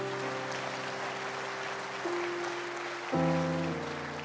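An audience claps steadily over sustained organ chords, the dense patter of hands filling the sound for several seconds as the music shifts to a new chord near the end.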